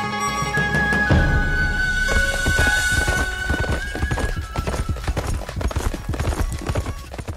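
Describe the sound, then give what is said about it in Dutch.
Hooves of Mongolian horses being ridden at Siwansee clip-clop in a steady, uneven rhythm in an ambling pace gait, fairly loud, with sustained tonal sounds in the background during the first few seconds. “Die Mongoolse paarden hebben allen min of meer een kamelenstap.”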